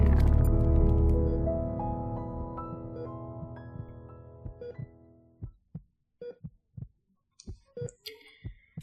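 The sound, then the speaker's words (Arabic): A low droning hum fades away, then a heartbeat sound effect takes over: a normal heartbeat of steady thumps in a regular lub-dub rhythm, with no one speaking. “نبضات قلبه طبيعية وضغطه طبيعي، يبدو أنه بدأ يستعيد وعيه.”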